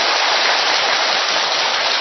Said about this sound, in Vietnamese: Xem cho một câu trả lời, một tràng pháo tay thật to nữa thưa anh chị em.